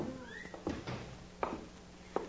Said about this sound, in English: Close that door, Little Beaver, and keep your eye on it.